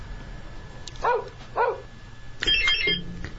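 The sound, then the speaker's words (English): A dog barks twice in quick succession at moderate volume, followed by a brief, harsher yelping sound, with no one speaking. “A dog is right.”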